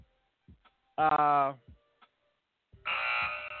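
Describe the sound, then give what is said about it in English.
A show timer goes off with a loud electronic buzz, first a short harmonic tone of about half a second, then after a pause a longer, harsher buzzing blare that runs to the end. “And that's the timer.”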